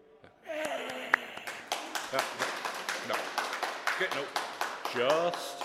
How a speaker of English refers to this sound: So I've done this in a couple of conventions. When I do this, could you people clap and cheer?